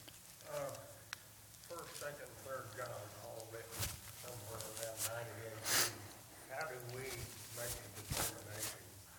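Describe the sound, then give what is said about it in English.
A person with sniffles talks steadily while a few short, sharp nasal sniffs break in at irregular moments, fairly loud against the voice. “Sorry, I've had sniffles ever since we had a frost, and I thought maybe I could get by without the antihistamines, and I've had sniffles ever since.”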